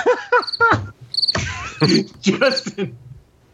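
Crickets chirp in quick repeated bursts, loud, filling a few seconds of otherwise quiet air before trailing off.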